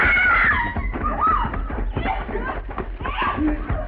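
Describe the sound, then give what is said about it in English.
A woman's shrill, high-pitched scream rings out at the start, then breaks into agitated, wavering cries and voices that continue loudly for several seconds. “Oh, sound like a lady scream, Mr.”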